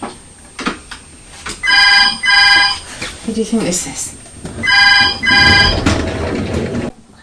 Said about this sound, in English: That's Daddy on the phone.